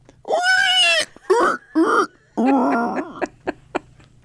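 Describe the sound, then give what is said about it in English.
A person imitates a pig squeal: a long, high, strained squeal, then two short grunting bursts and another raspy squeal, trailing off into a few faint clicks. “Are you good at squealing like a pig?”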